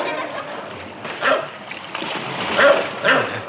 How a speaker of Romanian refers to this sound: Ce-i cu câinele ăsta? E din ce în ce mai furios!